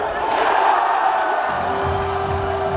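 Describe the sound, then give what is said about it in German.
A handball crowd roars and cheers in a dense, sustained wash of voices as the spectators rally after the team retakes the lead in the second half, with whoops rising above it and a steady tone entering halfway through. “5 Minuten später folgte dann die erneute Führung und die Zuschauer waren wieder voll da.”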